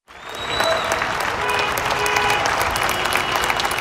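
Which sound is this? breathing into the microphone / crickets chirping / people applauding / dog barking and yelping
people applauding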